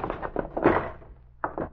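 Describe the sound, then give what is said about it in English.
A door is kicked open with a heavy thud and a loud crashing impact, surrounded by several shorter knocks and scuffles, fairly loud. “When I kick the door open, stand to one side and flash on the light.”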